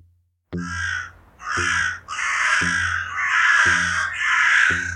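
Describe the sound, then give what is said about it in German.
A crow caws loudly, five harsh, raspy calls in steady succession with only brief gaps between them, no voices present. “Heute über Corviden, Raben und Krähen.”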